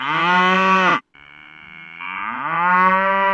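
A cow moos twice, loud: a long steady low bellow, a brief gap, then a second moo that swells and rises in pitch toward the end.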